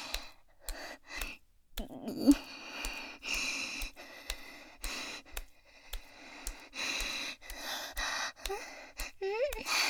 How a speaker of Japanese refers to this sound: 息遣い。ああ、これね。新入社員さんに、トレーニングジムのマシンの使い方を、教えてるの、じゃなかった？教えてます。